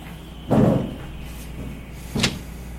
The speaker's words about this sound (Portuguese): Aí, parceiro, já podia pra abrir essa porta mais devagar, tá ligado?